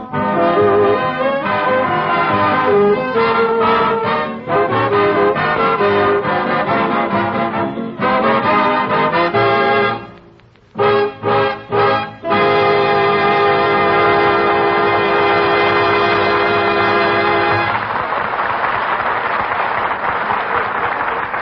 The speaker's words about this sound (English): As …, played by the orchestra.